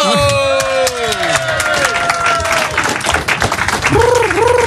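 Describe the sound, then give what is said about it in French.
An audience applauding improv performers at the end of an improvised scene: dense steady clapping that fills the whole stretch, with some whooping and cheering voices rising and falling over the top near the start and end. “On peut les applaudir et à nouveau trois autres personnes vont venir.”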